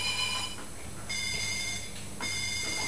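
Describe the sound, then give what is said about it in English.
A toy mobile phone makes an electronic reversing beep for a toy skip lorry, in long, repeated tonal pulses with a slightly ringtone-like quality, alone with no talking. “Oh, sounds a bit more like a mobile phone now.”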